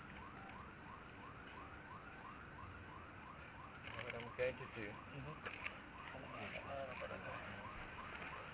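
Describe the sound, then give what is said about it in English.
A repeating electronic alarm wails steadily in the background with rapid rising sweeps, continuing throughout while a person speaks briefly. “Let's wait a minute for the alarm.”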